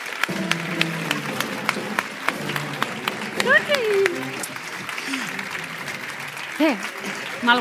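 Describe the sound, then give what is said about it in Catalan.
An audience breaks into steady, dense applause for the volunteer organising committee at a Festa Major event, with scattered whoops and voices calling out above the clapping. “Moltíssimes gràcies infinites també a la comissió, també un voluntariat d'aquells que dedica moltíssimes hores i que demano, sisplau, encara que sigui insistent, un fort aplaudiment per aquesta comissió.”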